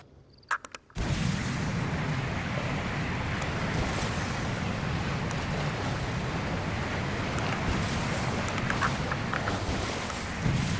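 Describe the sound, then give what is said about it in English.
A car fitted with large thrusters is test driven across water in a video game, a loud, continuous rushing drone with splashing surf and wind noise kicking in after a brief quiet start, with no talking. “Let's test drive it on the water now.”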